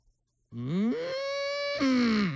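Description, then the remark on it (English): A person imitates an excited cow, giving one long, loud moo that climbs in pitch, holds high, then swoops back down with an energetic, excited edge. “That's an excited cow.”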